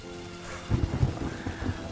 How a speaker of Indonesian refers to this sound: Hujan lagi turun. Banyak orang bilang kalau sebagian air yang turun adalah kenangan.